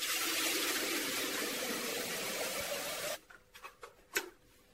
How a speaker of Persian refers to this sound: کسایی که مثل من کتری برقی داریم، کتری برقی رو بر میداریم، درش رو باز میکنیم، یه چیز حالت یه قسمت داره که توی درش که باید فشار بدیم به سمت عقب که درش باز بشه، بعد پر از آبش میکنیم به این صورت.